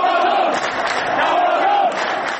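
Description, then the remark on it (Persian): A large crowd of Esteghlal football fans in Tehran shouting together in unison, a loud, steady roar of many voices with chanted tones rising and falling throughout. “در تهران طرفداران تیم استقلال یک صدا فریاد زدند.”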